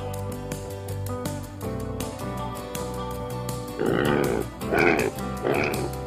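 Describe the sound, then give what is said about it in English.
A pig oinks and grunts three times in quick succession, loud, over steady, light background music that plays alone for the first few seconds. “Oink, oink. I am a pig.”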